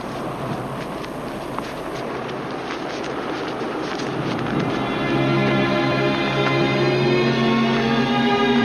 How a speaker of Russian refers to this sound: Ветер. Помните его слова? Вы услышите шум с неба, как бы шум несущегося сильного ветра.